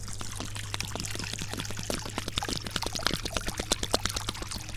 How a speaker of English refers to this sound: And we're gonna walk up here to the bird bath. And it's completely empty. Well, no wonder all the birds are so angry. All right, so let's pour the water into the bird bath.